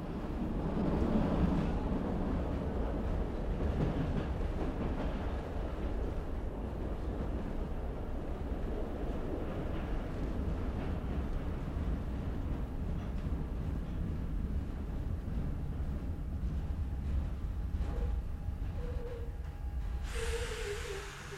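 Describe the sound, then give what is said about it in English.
A train rolls steadily along a railway track at the East German border crossing at Marienborn, a continuous loud rumble with rattling wheels and a brief faint whine near the end. Nobody speaks. “Barbed wire and high electrified fences crowd the railway track.”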